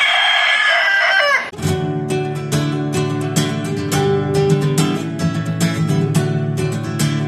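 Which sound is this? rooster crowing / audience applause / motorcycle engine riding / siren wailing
rooster crowing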